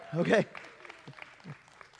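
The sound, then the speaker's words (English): A brief shout or whoop from the crowd, followed by thin, scattered clapping from a few audience members, mainly at the back of the room, that stays faint and sparse for about two seconds. “I appreciate the enthusiasm primarily from the back of the room.”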